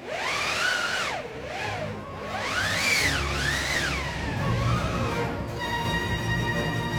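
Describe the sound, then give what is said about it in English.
A wind machine, a slatted drum with canvas stretched around it, turned by a handle, its slats rubbing on the canvas, makes a steady rushing whoosh that swells and sinks in pitch in repeated waves, howling like gusting wind with no voices; the storm sound heard in Richard Strauss's Alpine Symphony. “But when the slats rub against the canvas, it gives you this sound.”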